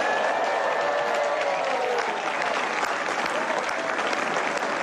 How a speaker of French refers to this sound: Ces applaudissements s'adressaient au tout info d'Amandine Bégaud.